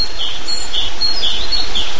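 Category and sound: bird, birds chirping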